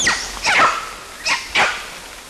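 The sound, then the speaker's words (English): Two animals, labelled LB and CW, bark four times in two quick pairs, each bark a sharp, bright, slightly falling call, clear against a quiet background; the first and most of the barks are by LB, one by CW. “And then CW gave one bark, but most of the barks were by LB.”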